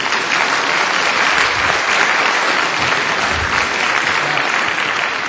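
A crowd of people clapping steadily for several seconds, a dense, even roar of applause with no voices breaking through.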